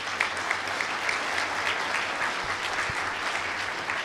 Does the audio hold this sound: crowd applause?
yes